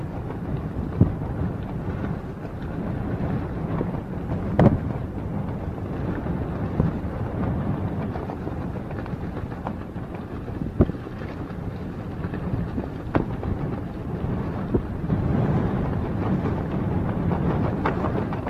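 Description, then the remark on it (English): Strong wind roars steadily over flat, cracked gray ground ringed by grayish mountains, among vans, trucks, cars and tents, with heavy low rumbling buffeting, broken by sharp gusts and thumps every few seconds. No voices, just the constant loud blustering rush. “Everything's being blown at, blowing hard.”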